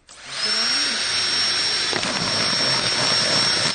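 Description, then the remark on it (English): A power drill spins up and bores a hole about 5 or 6 millimetres across through the side of a plastic bottle near its base, a loud, steady high-pitched whine over harsh grinding noise that holds for several seconds, with a brief jolt partway through. “here's Dave with his drill, and here he goes.”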